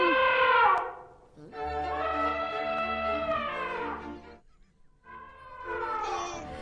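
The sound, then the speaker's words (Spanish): An elephant trumpets three times: a short blast, a long sustained bellow, then another rising call, loud and brassy with no voices. “Estamos en la granja o en la selva, porque acabo de oír un elefante.”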